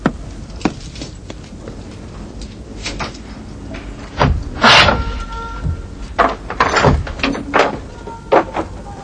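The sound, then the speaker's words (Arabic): A heavy door is unlatched and pushed open to where prisoners are held, with scattered knocks and rattles building to a loud scraping clatter midway, then a few more thuds, with no voices. “من هنا يا مولاي، إنهم هنا، افتح الباب.”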